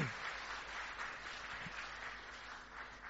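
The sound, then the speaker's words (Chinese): Steady applause from a crowd welcoming a mother and her son who come up to share their story fills the whole stretch, a dense wash of many hands clapping at moderate volume, continuous without pauses, with no one speaking over it. “不如我们用热烈的掌声欢迎”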